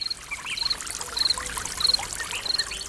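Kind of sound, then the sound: nature, flowing river water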